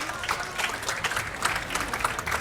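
A crowd applauds steadily, a dense wash of many hands clapping at an even level for a couple of seconds, with no talking over it.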